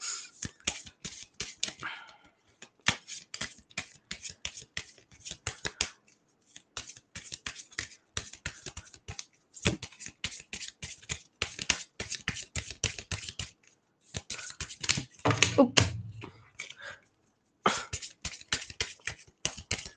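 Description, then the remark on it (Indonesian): Tarot cards from the right-hand pile being shuffled again, a steady run of crisp flicks and papery riffles in repeated bursts with short pauses between, and no one speaking. “Kita kocok lagi yang kanan.”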